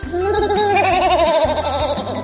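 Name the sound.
baby screaming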